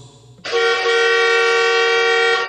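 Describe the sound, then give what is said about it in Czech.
A vehicle horn blares in one long, steady blast of about two seconds, loud, after a moment of quiet background noise. “Naime, kad on nama svira i mi ćemo njemu i zasvirati i zapjevati.”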